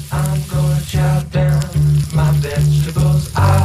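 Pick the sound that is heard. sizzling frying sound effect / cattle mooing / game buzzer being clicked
sizzling frying sound effect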